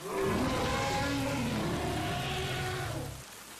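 A loud, deep roar from an unknown creature near the Orinoco River in Bolívar State, Venezuela, on a rainy night in 1980, rumbles for about three seconds with a shifting, growling pitch, then cuts off abruptly into quiet. No voices are heard.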